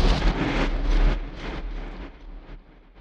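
A storm sound effect: a steady, loud roar of wind and rain with a deep low rumble, surging in gusts before gradually fading over a few seconds, with no voices.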